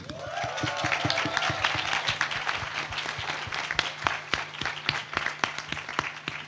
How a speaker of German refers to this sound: So, ein Applaus für die Technik.